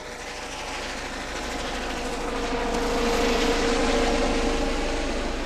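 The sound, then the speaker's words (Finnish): A FinnHEMS medical helicopter taking off from next door on a mission: a broad, steady roar builds and swells nearby, a dense rumbling wash with a faint whining tone riding on top, no voices present. “Ja sieltä Finnhems lähtee tehtävälle, tuosta naapurista tulee vähän meteliä. Joo, saadaan helikopterin ääntä taustalle.”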